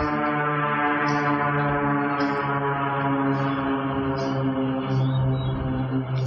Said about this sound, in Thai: เห็นไหมแค่เสียงเรือบินอ่ะจิตพวกเรายังไหลตามไปเลยจับตั้งแต่ทางนี้นะไหลตามไปทางโน้น